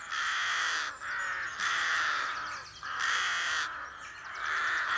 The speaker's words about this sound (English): Rooks are infamous for their raucous cawing. Whenever I moved, or a car passing by broke the silence, they would advertise it, giving it their whole body, with that characteristic bowing and fan-shaped tail movement.